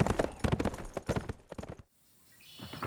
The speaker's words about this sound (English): After drinking his fill from his canteen, he stepped into the stirrups and spurred the horse down the mountain toward Tombstone, glancing back over his shoulder occasionally to make sure no warriors were on his trail.